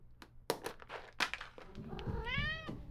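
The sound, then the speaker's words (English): Cats at Cat Tales Cat Cafe on Franklin Street meow as they beg for treats: a long rising and falling harmonic meow follows the clattering shake of a treat container, with another cat's softer cries mixed in. “When I shook a container of treats at Cat Tales Cat Cafe on Franklin Street, it didn't take long to attract a crowd of cats begging at my feet.”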